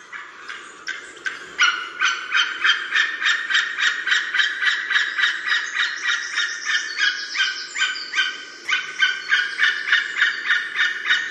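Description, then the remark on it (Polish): A flock of wild geese honks in alarm, scared by a predator that appeared among them, flying from one bank of a pond to the other; loud overlapping nasal calls in a fast, steady pulsing rhythm that carries on without pause for the whole stretch, with no talking. “A czemu one tak dzisiaj strasznie krzyczą przed tym naszym mikrofonem?”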